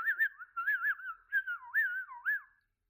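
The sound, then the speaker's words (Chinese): A person whistles a short, warbling tune of several rising and falling phrases, clear, with no talking, ending abruptly after a couple of seconds, calling a little dog. “听见我这样的口哨声，你应该从心底里感到欣喜吧？”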